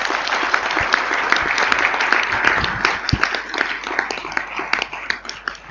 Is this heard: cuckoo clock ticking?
no